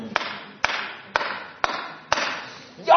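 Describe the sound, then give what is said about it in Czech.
Five sharp, evenly spaced hammer blows strike a nail about every half second as someone demonstrates how to hammer in a nail, each a crisp metallic knock with a short ringing tail, before a voice breaks in right at the end. “Tak já teď možná nebudu chvilku slyšet a já vám předvedu, jak se zatlouká hřebík. Se takhle vezme kladivo, hřebíček a začne se bouchat.”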